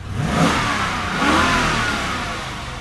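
A powerful new black Dodge Challenger in a car showroom revs loudly, recorded with a microphone under the hood, its deep roar swelling twice with a rising whine before settling into a rumbling growl. No one speaks.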